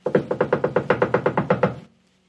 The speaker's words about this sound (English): By the time oil was purchased and they arrived at the wedding, the door was closed and locked. "Let us in! Please let us in," they begged, knocking loudly.